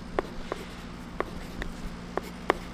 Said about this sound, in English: is writing on her poster with a blue-colored pencil.